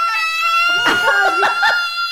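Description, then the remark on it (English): A person voices a loud, shrill screaming yawn while stretching, mimicking a pterodactyl waking up: one sustained, piercing screech about two seconds long that wavers and cracks with rough, throaty bursts in the middle. “Yawning and stretching, but a screaming sound was coming out.”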